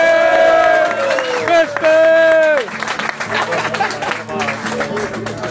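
A crowd lets out loud, sustained whoops that slide downward in pitch. These give way to a dense, steady burst of special applause with scattered shouts for the last few seconds.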